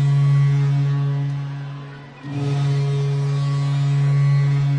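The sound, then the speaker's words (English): A ship's foghorn from nearby shipping sounds during a baseball game: a deep, loud, droning blast rich in harmonics. It dips briefly around the midpoint, then swells back and holds steady to the end, with no voices. “That's the loudest foghorn I've ever heard.”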